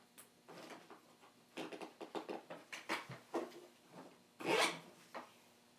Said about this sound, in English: Don't make me want to fall to my knees before you and undo your zipper and take out your cock and suck it.